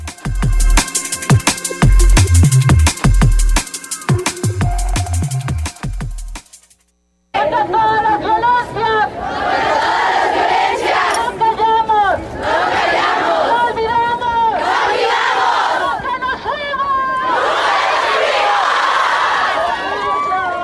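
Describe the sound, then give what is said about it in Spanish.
A large crowd of feminist protesters chants and shouts in unison in the streets of Guadalajara, Jalisco, on 8 March, International Women's Day, many voices rising and falling together in loud, continuous cries, preceded by a few seconds of rhythmic music before a short silence. “A ese grito, las feministas en Jalisco volvieron a tomar las calles de Guadalajara, después de 2 años de pandemia que obligaron a la mayoría del movimiento a trasladar las protestas del 8 de marzo, Día Internacional de la Mujer, a la virtualidad.”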